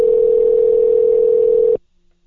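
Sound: telephone dial tone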